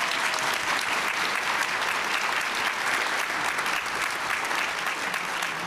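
Sustained audience applause, a dense and steady wash of many hands clapping at an even, loud level throughout with no voices standing out.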